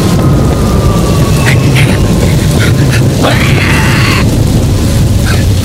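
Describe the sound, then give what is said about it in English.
A commercial jet roars past amid a fierce storm of sleet and hail with lightning, its whooshing sweep rising briefly midway over a constant, loud, deep rumble of wind and thunder. “A bolt of lightning lights up the sky, just as he narrowly misses a commercial jet.”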